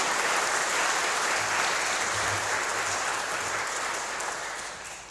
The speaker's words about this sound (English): I think a round of applause might suit today. Thank you.